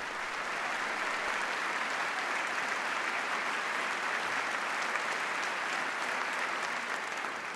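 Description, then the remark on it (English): Sustained applause from a large audience after a speech's pitch for corporate responsibility and new accountability, a dense, steady wash of clapping that holds at an even loud level for the whole stretch without pausing or fading. “Lots of applause for this pitch for corporate responsibility and new accountability.”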